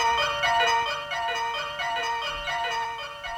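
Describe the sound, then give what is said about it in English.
An alarm clock goes off with a bright, tinny electronic jingle, repeating short high-pitched notes in a steady, insistent rhythm. It stays loud throughout, with no voices. “Rats, there's that crazy alarm clock again, and I was just about to tackle this great big letter.”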